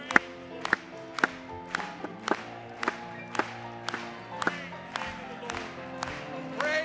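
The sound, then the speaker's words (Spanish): An audience claps together in a steady rhythm, about a dozen sharp, loud unison claps, over sustained music with voices singing in the background. “Vamos a aplaudirle una vez más.”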